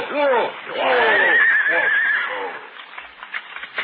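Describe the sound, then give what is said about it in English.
A horse whinnies loudly, a shaky, wavering neigh that rises and falls for about two seconds before trailing off into softer snorting and scattered faint noises. “Oh, we must rest the horses.”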